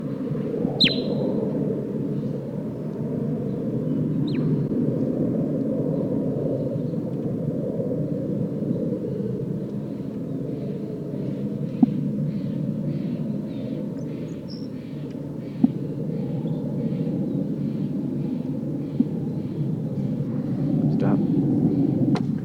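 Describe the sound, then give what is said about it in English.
A bird, bird 8, recorded from about 3.5 meters, gives a long, steady series of soft, faint toots, barely rising above a heavy low rumble that fills the background, with a sharper chirp near the start. “Bird 8 giving soft toots.”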